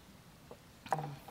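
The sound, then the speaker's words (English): A single quiet sip from a drink, a brief wet slurp with a faint liquid gulp, over a soft low background hush and no talking. “Take a minute while I take a sip.”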